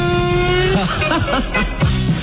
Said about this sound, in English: Did you find it? Yeah. All right, Rob finally found the car starting sound effect.